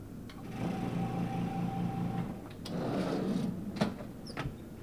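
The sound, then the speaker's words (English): A heated-coil vacuum forming machine, with heated coils placed over a master copy, produces a raised image on Braille paper, running with a steady low mechanical hum, punctuated by a few sharp clicks and clunks as parts shift. No one speaks. “This master copy then goes into a machine that will produce one image onto Braille paper with a heated coil machine.”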